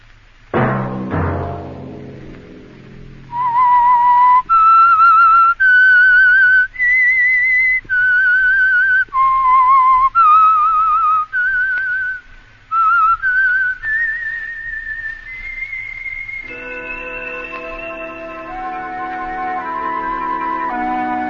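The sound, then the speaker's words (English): A clear, loud whistled melody of sustained notes rising and falling in a slow, eerie tune, the signal tune of the Signal Oil program The Whistler, with orchestral music swelling in underneath as it ends. No talking. “That whistle be your signal for the Signal Oil program, The Whistler, each Sunday night at this same time.”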